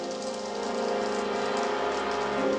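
Steady rain patters on a car roof and windows, a continuous dense drumming at moderate volume, holding evenly throughout with no voices.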